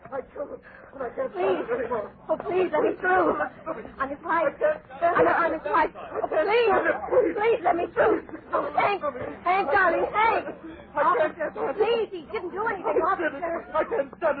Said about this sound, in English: And then I saw him rush up to a cop on Lake Street and scream something at him. I couldn't hear. I couldn't hear it all, and the crowd was there in no time.